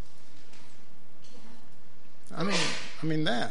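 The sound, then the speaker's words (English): A single sneeze bursts out after a quiet stretch: a voiced, rising intake, then a sharp noisy blast that trails into a short, tonal vocal tail. “Bless you.”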